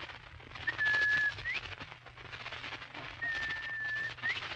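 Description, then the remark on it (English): A person whistles an imitation of a bobwhite quail call twice, trying to get a bobwhite to answer, each a thin steady tone ending in a sharp upward slide, over a constant hiss and low hum. “Did you ever hear me imitate a Bob White?”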